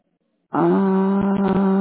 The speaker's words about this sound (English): I'm trying to get my dog. Can you hold on, please, so I can get her quieted down?